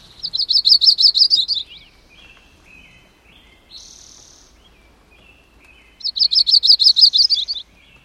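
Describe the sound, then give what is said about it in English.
A migrating warbler sings two quick bursts of rapid, high, repeated notes, separated by a few seconds of faint chips and calls. The song is clear, with no talking. “You stand in awe, convinced that nothing could be more delightful than offering a refreshing shower to a worn-out migrating warbler that will return again next spring to sing this song.”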